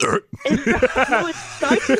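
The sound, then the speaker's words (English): A person vocally imitates a sharp hiccup that stretches into a gurgling burp, fairly loud, with short bursts of voiced sound following right after. “It starts as a hiccup and ends as a burp, which is why we expect her to puke.”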